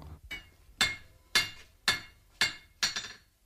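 The sculptor John Behan strikes metal with a hammer on an anvil in his Dublin art foundry, in a steady, deliberate rhythm. There are five or six bright clanging strikes about half a second apart, each with a short metallic ring, with no talking.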